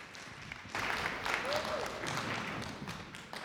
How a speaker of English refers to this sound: Thank you. Give them a fantastic cheer and round of applause.